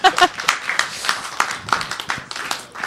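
An audience applauds steadily, a dense patter of many hands clapping at moderate loudness for about three seconds, with a brief voice heard at the very start.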